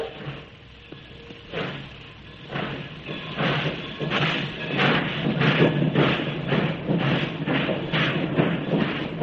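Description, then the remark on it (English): A railroad coach travels from Skagway toward the Yukon, its wheels clacking in a regular rhythm over a continuous rumbling roar that stays loud throughout. “We go into the center of Skagway, climb aboard the ultra-modern railroad coach, and we're off for the Yukon.”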